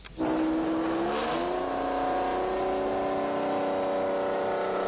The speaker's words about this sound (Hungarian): A több mint 50 millió forint értékű négykerekű nem csak hangja és formája miatt vonzotta az érdeklődőket.